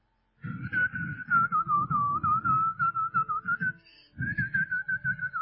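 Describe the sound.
A person whistles a sustained, wavering melody, pausing briefly near the end before continuing, with a steady low pulsing rumble underneath and no speech.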